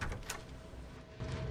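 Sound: door opening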